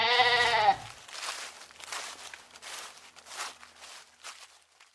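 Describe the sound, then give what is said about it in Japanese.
A single loud, quavering bleat from an old goat lasting just under a second, followed by soft shuffling footsteps and rustling on the ground. “その呼び名が示す通り、彼女の頭には今語りかけている年老いたヤギのそれとよく似た角が一本、左側一方にだけ生えていた。”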